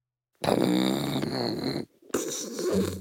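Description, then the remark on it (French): Loud snoring of a wolf: one long, rasping, growly snore, a brief pause, then a second rumbling breath starting up. No talking. “Et pendant que le loup ronfle”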